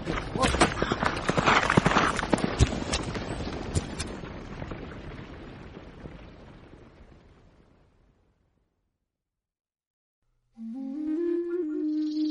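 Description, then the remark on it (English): Horses gallop past with loud, dense thundering hooves that gradually fade over several seconds. A short silence follows, then a person starts speaking. “They trained their fastest horses to hunt the buffalo.”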